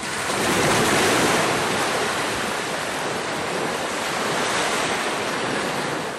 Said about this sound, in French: J'aime les sons des vagues.